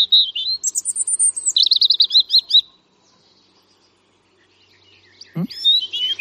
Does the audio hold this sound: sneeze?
no